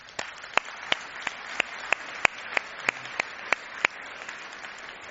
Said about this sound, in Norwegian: Vi er veldig, veldig glad for den mobiliseringen som har vært, og det synes jeg fortjener en applaus.